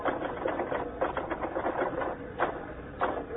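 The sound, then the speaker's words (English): Rapid, steady clacking of typewriter keys as a banquet news story is typed, a dense run of quick mechanical taps with a few louder strikes, with no voices. “You finished typing that banquet story yet?”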